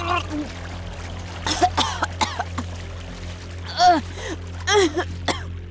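Several sharp splashes break over a steady rush of moving water, mixed with a person's gasping cries and coughs close by, as if someone has just tumbled in and is thrashing about.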